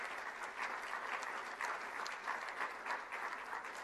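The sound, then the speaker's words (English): A large church audience at New Life Church claps steadily and continuously after affirming a new full-time pastor of worship and discipleship, a dense wash of many hands applauding at once with no voices standing out, sustained throughout at a fairly even level. “And of course, we know every time we clap for someone, it's ultimately pointing to Christ, right,”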